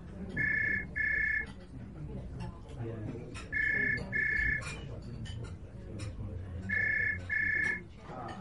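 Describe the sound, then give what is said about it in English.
A phone rings in three loud double bursts, each a bright, steady electronic trill, evenly spaced about three seconds apart over a continuous murmur of background noise and indistinct voices. “Wait, I've got a phone call.”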